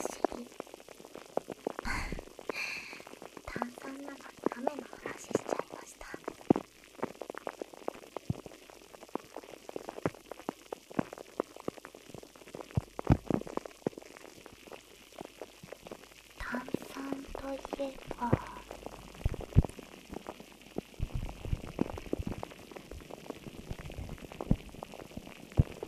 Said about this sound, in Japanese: 雨